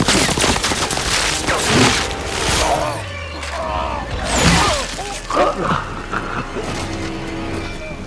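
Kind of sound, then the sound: sound effect, gunfire shots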